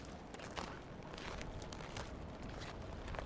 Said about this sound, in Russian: Вот сейчас все бросила и пошла в лес рядом с домом гулять. Здесь очень здорово. Здесь солнышко так светит, и снег лежит, и, может, слышишь, как хрустит.